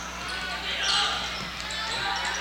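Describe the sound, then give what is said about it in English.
A basketball is dribbled a few times on a hard court during a game between the Lady Bears and the Isser County Cougars, its dull thumps partly buried under the steady roar of a large crowd. “Abby on the dribble.”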